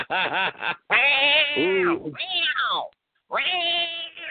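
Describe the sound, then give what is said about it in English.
Several cats meow loudly and insistently, with a short burst of quick calls followed by long, drawn-out yowling wails that rise and fall, separated by a brief pause. “There go the cats.”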